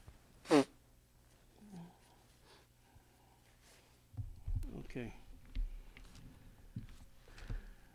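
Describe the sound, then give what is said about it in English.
A person blows their nose once in a short, sharp, loud burst, followed by quieter muffled snuffling and rustling noises. “Just blow my nose, excuse me.”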